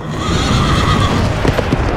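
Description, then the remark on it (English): A horse whinnies loudly for about two seconds, a drawn-out, quavering neigh over a busy background that may include hoof clatter. No one speaks. “Another horse, fiery red, went out.”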